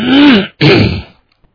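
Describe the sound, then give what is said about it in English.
Two loud, harsh coughing bursts in quick succession, rough-throated, the second slightly shorter, followed by quiet. No talking. “Excuse me for all this coughing.”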